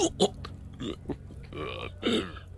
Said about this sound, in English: But then you end up burping and nearly throwing up and losing your train of thought.